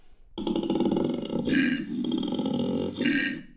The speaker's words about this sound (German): Wenn ein Koala-Bär aber Lust hat, also rollig wird, ja, und sich fortpflanzen will oder muss, dann holt plötzlich der Koala-Bär den … in sich heraus